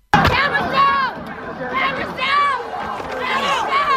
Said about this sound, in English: That was the sound as looters broke into the North Face store, one of many hit when a crowd of several hundred people moved through the area, smashing windows and taking the merch.